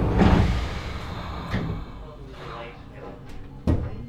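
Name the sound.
tram doors closing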